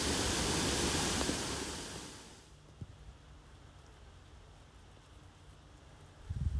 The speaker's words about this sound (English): As lovely as this spot is, I'm starting to lose my voice trying to talk over the crashing sound of the water.